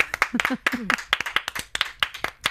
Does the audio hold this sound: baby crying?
no